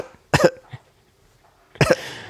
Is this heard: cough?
yes